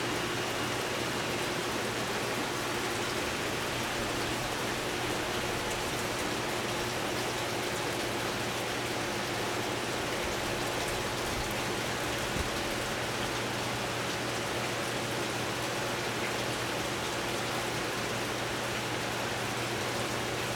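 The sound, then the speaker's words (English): Water flows steadily over fish eggs, the flow being adjusted to give the eggs oxygen, in a constant rushing hiss with a faint low hum underneath. The sound stays even and unbroken throughout, and no one speaks. “Jared's just adjusting the flow there to try to give the eggs as much oxygen and water flowing over them”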